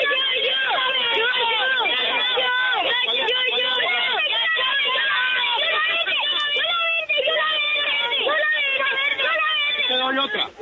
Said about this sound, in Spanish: Los niños recibiendo su ropita, recibiendo sus camisetas. Aquí están, escuchen a los niños pidiendo.